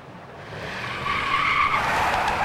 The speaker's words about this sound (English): The car swerves onto the turnoff for the Verrazano Narrows Bridge.